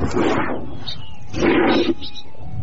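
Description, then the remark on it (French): A bull bellows twice, each deep, rough call lasting about half a second with a short pause between, loud with no one talking. “Non. Un taureau.”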